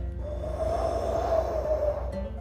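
A single drawn-out yawn, fairly loud, its breathy voiced tone swelling and then fading over about a second and a half, given late in the evening on the way home by car, with a low steady hum underneath.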